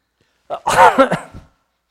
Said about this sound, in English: So I'm going to cough a little bit.